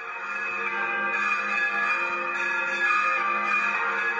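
Bells of the Cathedral of Coria and the Co-cathedral in Cáceres, Spain, ring at noon on Tuesday 7 December to mark the appointment of the new bishop of Coria-Cáceres, in a rich, overlapping peal, their sustained metallic tones steady and fairly loud throughout, with no voices present.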